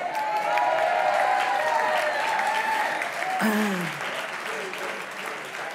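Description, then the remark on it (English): An audience at a worship service claps steadily for several seconds, the applause dense and fairly loud before tapering slightly, with a few voices murmuring underneath. “I just wait for you all to clap, and then I blow it that time.”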